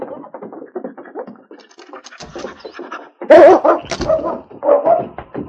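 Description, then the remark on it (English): A dog, King, whimpers and gives short, excited yips and barks in a quick, uneven stream, with a louder burst of barking midway before the whining resumes, as he picks up a man's scent from a hat and tracks it. No one speaks. “Sergeant Preston held out the hat to the intelligent dog.”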